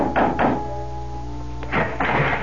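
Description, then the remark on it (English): Knocking on the wooden door of a house at dusk: two hollow raps, a pause of over a second, then two more, moderately loud over a faint steady hum. “dusk was beginning to fall when, exhausted, famished, and dirty from the road, I knocked on the door of the Adams house”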